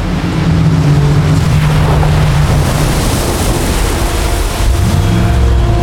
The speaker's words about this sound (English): The engines of all three inflatables purred into life. The sea churned more wildly.